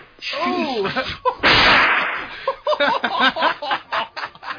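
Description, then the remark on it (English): A sharp, loud gunshot blast, one of two shots fired at a deer while deer hunting, with a rushing, noisy tail, cuts in between excited voices, which exclaim and chatter before and after the shot. “Two shots.”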